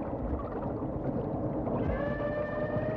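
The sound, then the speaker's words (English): Underwater calls of a whale about a mile and a half away, picked up on a hydrophone, rise as long, wavering tonal moans over a dense, rumbling low-frequency wash of ocean noise, growing clearer and more harmonic in the latter half. “he was a mile and a half away, we were still getting the calls loud and clear on the hydrophone, which is really unusual.”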